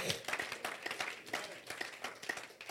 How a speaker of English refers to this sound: Oh, I thought you would clap for the Lord.